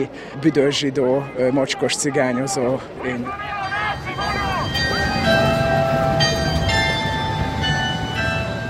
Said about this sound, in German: Auf dem Deák-Platz in der Budapester Innenstadt ertönt das Glockenspiel der evangelisch-lutherischen Bischofskirche. Viele Menschen strömen von der Straßenbahn in die U-Bahn-Station und zurück.